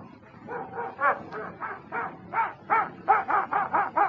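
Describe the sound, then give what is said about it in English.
A dog named Toby barks over and over in quick, steady bursts, a dozen or so short yelping barks with a whiny edge, moderately loud, with no one talking. “Toby, now where's that dog gone?”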